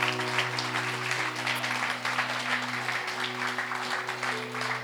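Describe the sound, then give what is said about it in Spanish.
Steady applause from a crowd giving a hand clap to the Lord, a dense wash of many hands clapping without pause, over a low sustained hum. “Sí, let's give a great Señor. Hand clap to the Lord.”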